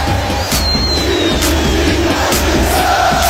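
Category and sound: crowd, football crowd cheering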